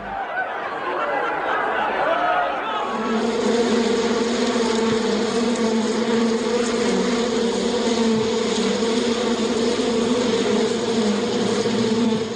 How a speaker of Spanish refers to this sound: Mientras polinizaban las flores de lilas que crecían junto a las tumbas en un cementerio, una abeja comentaba a su amiga